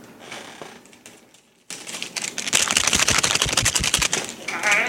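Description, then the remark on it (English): Paper shuffling while drawing a contest winner, starting after a brief quiet moment and building into a dense, rapid run of crisp rustles and crackles that keeps going to the end. “put, like, the ghetto drum roll? No, it's paper shuffling.”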